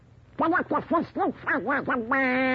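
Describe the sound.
A cartoon-style duck voice sputters a quick run of about seven nasal, quacking syllables, then stretches into one long buzzing quack, loud with nothing else heard.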